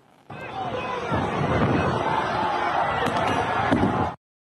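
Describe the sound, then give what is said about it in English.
A dense, noisy crowd roars and shouts throughout while a few sharp, percussive bangs burst through, the loudest near the end, as a flash grenade is thrown into the crowd and goes off amid the commotion. “And you'll notice there's kind of font all over it, but it shows a flash grenade being thrown into a crowd.”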